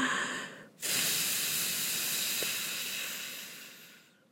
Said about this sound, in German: Tief einatmen, denn sonst haben wir nicht genug Luft in der Lunge. Und dann atmen wir aus und pusten ganz viele.